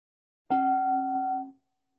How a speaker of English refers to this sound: But let's begin by just listening to the sound of the bell.